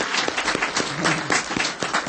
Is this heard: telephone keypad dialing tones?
no